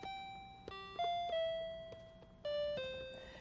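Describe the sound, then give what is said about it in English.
Mr. McFeely's speedy delivery song played on a little electronic keyboard: about six bright, bell-like notes stepping up and down, each ringing and fading, with no voices. “Oh, speaking of that, would you like to hear your speedy delivery song on my... I'll show you. My little keyboard here?”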